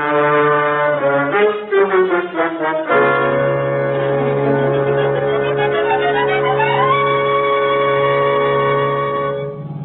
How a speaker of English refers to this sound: Get the car and step on it. Lieutenant... Yeah, the siren.